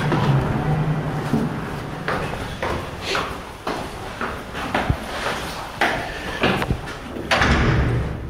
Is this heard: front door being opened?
yes